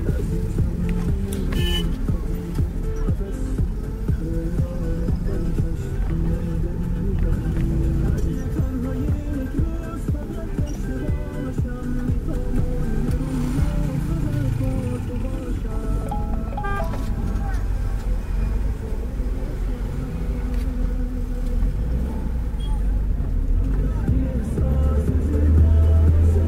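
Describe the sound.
A car engine rumbles steadily in front of a bus terminal for the whole stretch, a low continuous drone with faint street bustle and murmured voices, swelling slightly louder toward the end.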